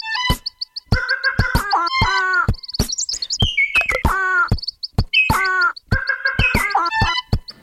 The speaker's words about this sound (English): He finishes up with the Madagascar long-eared owl, the red-fronted quaw, and the Sayumanga sunbird.